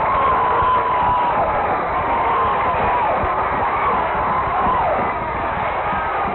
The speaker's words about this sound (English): The Tallahassee Tigers are in the playoffs! Listen to that crowd!